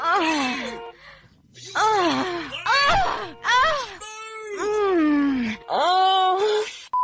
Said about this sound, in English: turn the sound of honking horns into the gentle gasps of a lovely lady in the throes of ecstasy.